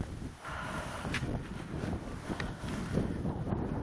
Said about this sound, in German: Es windet übrigens auch, falls das noch keiner mitgekriegt hat. Schnee und Wind und es ist der 22. November.